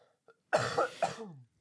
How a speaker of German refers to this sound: entschuldigen, falls man meinen Husten die ganze Zeit irgendwo auf der Aufnahme hört. Schneiden aber wir da raus.